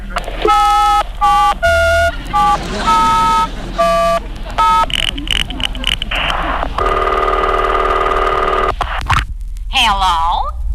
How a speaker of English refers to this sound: I surprise them by calling them up and saying hello. What a thrill it's going to be for some American to speak to me, the president. I'll just dial any number in the phone book.